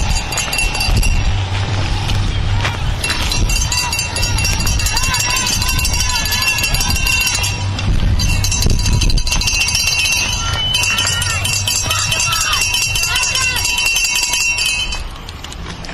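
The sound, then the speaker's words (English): Many bells clang continuously and loudly at the First Barrier Dismount of an Urban Cyclocross Series race, rung by a fan club from Cello Pacific: a dense, bright metallic jangle with shouting crowd voices mixed in and brief lulls around the fourth and eighth seconds. “All right, that was bells ringing over here at the First Barrier Dismount with a fan club from Cello Pacific here, and you're on Bike Sport Radio with live sounds from the Urban Cyclocross Series.”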